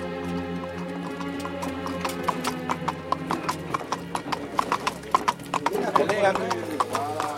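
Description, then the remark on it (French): Horse hooves clip-clop in a steady rhythm that grows busier and louder toward the end, over a sustained low droning tone, with a brief whinny near the finish; a rider on a stolen horse descends the Durance valley toward Manosque, France, in stifling heat through deserted countryside. “Il descend la vallée de la Durance sur un cheval qu'il a volé et parvient finalement à Manosque.”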